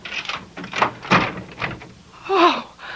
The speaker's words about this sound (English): We got a chain lock, lady. Just open the door a couple inches.